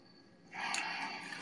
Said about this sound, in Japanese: 水の音だ。嬉しい。嬉しいみんな。水の音だ。推しの声と水の声だ。